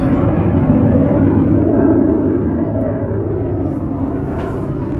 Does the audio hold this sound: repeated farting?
no